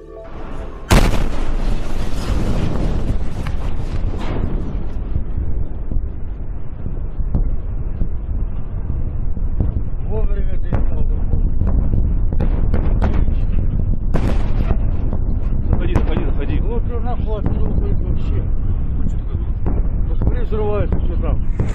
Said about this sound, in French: Voilà, vous entendez ces explosions qui ne sont pas celles issues d'une scène de guerre, mais qui sont l'explosion d'un météore dans le ciel de Russie